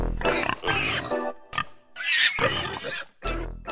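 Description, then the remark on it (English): Loud, squealing pig oinks and rough grunts come in a rapid series of bursts, layered over a short, busy musical sting with no one talking, played as bump music on the radio station Alternative Talk 1150. “I was just thinking Nathan's pig ears and nose are very appropriate for that bump music there. He's got the pigs out today.”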